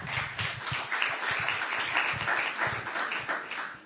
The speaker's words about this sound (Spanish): ¿Cómo te han aplaudido, eh? ¿Ves cómo la gente aquí es muy solidaria con los de fuera?